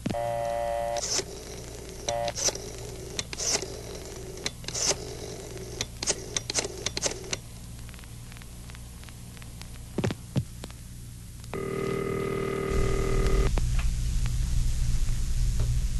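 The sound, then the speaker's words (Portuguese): A telephone is dialed to call a hospital, with a series of short tones and sharp clicks over a steady low hum, followed by a sustained electronic ring tone lasting a couple of seconds. “Tia Marocas, eu vou telefonar para o hospital para saber do Alex.”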